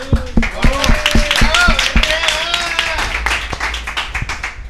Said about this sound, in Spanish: Un aplauso para Mr. Maston.